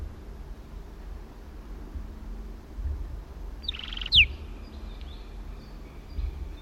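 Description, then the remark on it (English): Kelp gulls call faintly: one short, harsh, high burst stands out midway over a steady low rumble of noise, followed by a few fainter scattered calls. “Kelp gulls in the background.”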